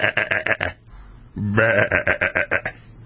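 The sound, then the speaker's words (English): Two loud bleats from a sheep, each a wavering, pulsing "baa" with a quavering tremble, the second longer and rising in pitch before breaking into rapid pulses, with a short pause between. “Unvaccinated sheep.”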